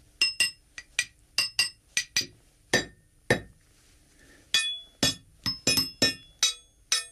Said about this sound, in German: Das zentrale Arsenal von Schlagwerkstücken besteht aus Kleinmetallteilen von Zügen und Gleiskörpern. Ich habe hier vier Stück mitgebracht und werde jetzt vorsichtig spielen.